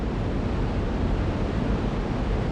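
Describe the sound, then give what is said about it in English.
Niagara Falls roars at close range, a dense, steady wash of rushing water crashing against rocks with no pauses, loud and enveloping, heard alone without any voices. “With a short climb, you can get right up next to the falls and get pretty wet too.”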